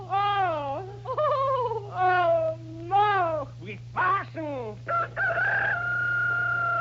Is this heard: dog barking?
no